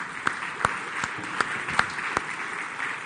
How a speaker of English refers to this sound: Amen? Yeah, you can applaud.